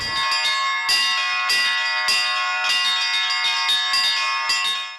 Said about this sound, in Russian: И вот мы проводим их на колокольню и там с ними участвуем в звоне. И он от всей души как бы воплощает свою мечту в звоне.